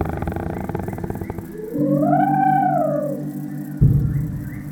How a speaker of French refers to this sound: Mais l'éléphant refuse et continue de barrir et souffler.